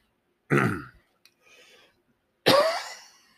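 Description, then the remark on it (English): Two loud, close throat-clearing coughs about two seconds apart, with a faint click and soft rustling in between as a cough drop goes into the mouth; no talking. “Excuse me, sorry, I had to put a cough drop in.”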